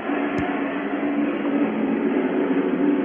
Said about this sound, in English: There was a jet going over, couldn't hear you.